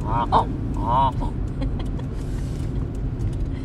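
flock of geese calling

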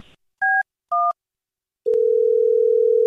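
telephone dial tone

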